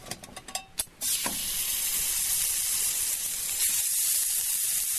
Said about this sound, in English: Put the three slices of fillet there onto the pan. You can just hear it sizzling there nicely. Just frying these as it happens in rapeseed oil. These are literally going to get 2 minutes on either side.